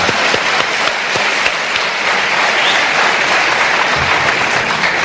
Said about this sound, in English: And I tell you, give him another clap for that. Give him a clap.